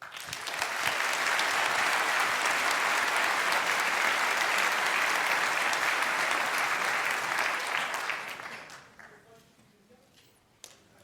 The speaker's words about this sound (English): Please welcome him with a huge round of applause.